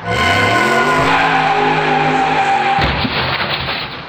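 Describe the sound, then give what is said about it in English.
A loud tire squeal as a car driven by a young joyrider skids hard, the high screeching tone sliding for a few seconds before breaking into rougher, noisy scraping as it ends. “The cause of your problem, Doctor. Some young joyrider, as I suspected.”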